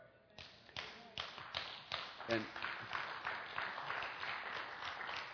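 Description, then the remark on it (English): A crowd breaks into applause, many hands clapping in a dense, steady patter that swells after a brief pause and holds strong to the end, with faint voices mixed in. “And I remembered there was a spontaneous outbreak of applause from you.”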